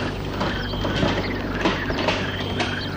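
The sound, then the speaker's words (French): A house door swings open after a knock with a mechanical creak and a few light clicks and knocks, over a steady low background hum. No one speaks. “Après un petit moment, la porte s'ouvre.”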